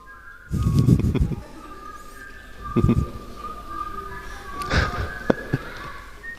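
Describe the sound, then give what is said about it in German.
Someone whistles the Jeopardy waiting music, a thin melody of steady high tones, broken up by short bursts of low rumbling noise and a sharp click near the end. “Da gibt es doch diese Jeopardy-Wartemusik. Wer will die pfeifen?”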